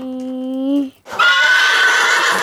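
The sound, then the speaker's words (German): A horse neighs loudly: a steady, tonal call breaks off briefly, then erupts into a shrill, quavering whinny that fills the rest of the moment. “Da kommt dein Pferdl, wie schaut es denn aus?”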